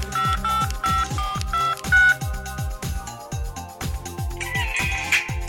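A phone ringtone plays a bright, repeating electronic melody over a pulsing bass beat, loud, with no talking.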